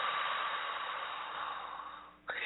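slow exhale

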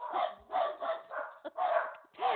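dog barking

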